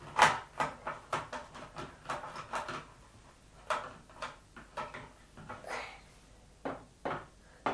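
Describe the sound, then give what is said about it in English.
A door is shut again and again, a quick series of sharp knocks and thuds with short rattling gaps between them, nobody speaking. “I will keep the door shut for you. I'm closing it. Done. Now close this one.”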